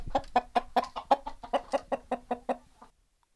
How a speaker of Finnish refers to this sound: Täällähän on tosiaan yksi ihan paljasjalkainen kankaantörmäläinen täällä kanojen joukossa. Täällä syntyi yksi Tipu.